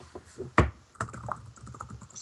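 Keys clatter on a computer keyboard in an uneven run of soft taps, with one sharp, louder clack partway through and no voices.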